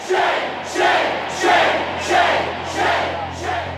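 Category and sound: crowd, protest crowd chanting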